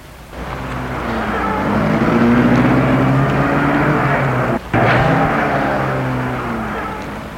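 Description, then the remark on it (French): A car engine starts and revs, settling into a loud, steady rising drone as the car pulls away, with a brief dip midway like a gear change. No one speaks. “Et met sa voiture en route.”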